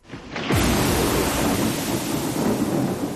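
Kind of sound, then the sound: nature, thunder rumbling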